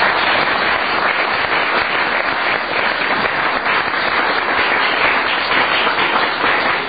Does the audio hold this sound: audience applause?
yes